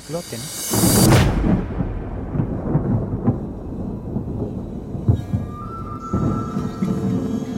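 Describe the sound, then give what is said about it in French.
A single loud, sharp blast from a controlled detonation of an artillery shell bursts out, set off by sending water at very high speed into the shell to separate the explosive charge from the firing mechanism, followed by a long, deep rumble that rolls on and slowly fades over several seconds. “Une explosion provoquée et maîtrisée.”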